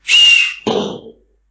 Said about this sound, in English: An artillery shell, when it's coming your way, whistles. The further away it's going to land, the longer it whistles. If it's coming close, it's a short whistle.